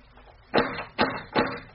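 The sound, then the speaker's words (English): A man knocks three firm times on a door in a quick, even rhythm, each a dull thud with a short ring-off, standing alone against quiet background hiss. “Let him knock again.”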